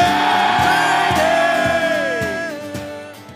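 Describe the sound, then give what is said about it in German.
A large crowd lets out a loud, sustained collective war cry on a count of three, a dense roar of many voices that slowly fades, with a steady pounding beat underneath. “Darum lasse ich uns miteinander einfach ein Kriegsgeschrei schreien auf drei.”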